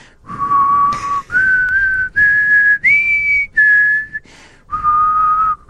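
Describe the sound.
A person whistles a short radio theme tune, six sustained notes rising then falling in pitch with brief gaps between them, clear and fairly loud with no talking.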